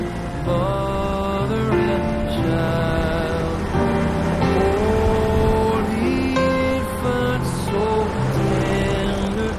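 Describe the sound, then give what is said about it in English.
A fire truck engine rumbles steadily as it drives down a village street beneath Christmas lights on storefronts and power lines, with a continuous droning hum and shifting tonal whine, loud and constant throughout with no voices. “Christmas lights on the storefronts and power lines illuminate as the truck drives underneath.”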